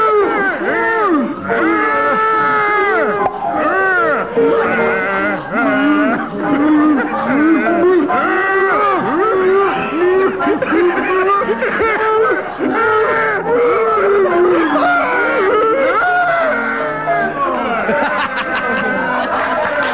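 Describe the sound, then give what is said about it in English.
Two people sing a tune entirely in cow-like moos, their voices imitating cattle with long, swooping lowing notes that overlap continuously, loud throughout. “I want you to specify their animals. Cows.”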